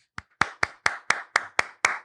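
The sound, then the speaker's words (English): Applause from a single pair of hands: about nine sharp, crisp claps in a steady, even rhythm, fairly loud, with no voices. “hold for applause.”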